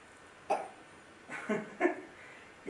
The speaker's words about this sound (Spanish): Tú solo toses un poquito. ¿A qué toses? ¿Cómo haces?